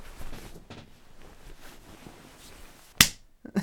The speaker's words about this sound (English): You just slapped my ass. I like it. Again, spank me again.